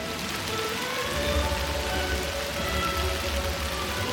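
Steady rain falls without a break on the main square of the small town of Plains, Georgia, a dense hiss of drops spattering on hard surfaces with a low rumble underneath, fairly loud, with no voices.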